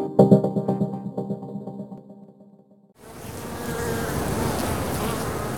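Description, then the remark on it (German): A single honeybee buzzes in a wavering, pulsing drone that fades, then a dense, steady hum of many honeybees swells in and continues, with no voices. “Ein Fünftel aller Bienenvölker hat den Winter nicht überlebt. Nicht die einzige Horrormeldung über diese so wichtigen Insekten.”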